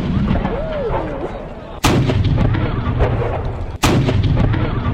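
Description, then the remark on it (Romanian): Two loud ceremonial cannon shots of a three-shot salute by the citadel guard at the Alba Carolina citadel in Alba Iulia, Romania, marking the inauguration of its western side, boom about two seconds apart outdoors, each sharp blast followed by a long rolling echo and rumble that fills the gaps between them. “După aproape 3 ani de la începerea lucrărilor, latura de vest a cetății Alba Carolina din Alba Iulia a fost inaugurată astăzi, iar momentul solemn a fost salutat de garda cetății cu 3 lovituri de tun.”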